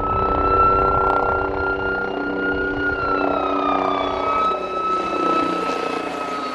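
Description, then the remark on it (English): A police helicopter and an airplane fly over to end the funeral of Chief Michael Maloney, a loud, steady engine drone with whining tones that slowly drop in pitch as the aircraft pass overhead. No one speaks. “The funeral finished after a flyover by a police helicopter in an airplane.”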